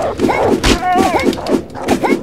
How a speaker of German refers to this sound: Ist das ein geiler Hund? Der hüpft immer wieder zurück.